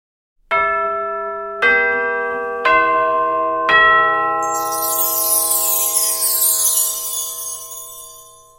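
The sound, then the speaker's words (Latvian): A theatre call chime inviting the audience into the hall, played by a digital player through 32 hidden loudspeakers: four clear bell tones struck one after another, stacking into a ringing C major sixth chord, then brushed by a bright, shimmering cascade of wind chimes as it fades. “Kā uz puantēm pastiepies do mažora sekstakords, atspēries uz augšējo skaņu, vēju zvanu noglāstīts rosina skatītāju doties zālē, lai gaismām iziestot ieniktu mākslas pasaulē.”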